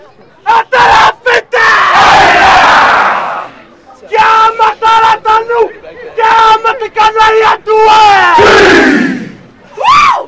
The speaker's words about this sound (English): He sticks out his tongue, bugs out his eyes. His teammates drum their chest and their thighs in unison. This is the haka, a traditional Polynesian war dance.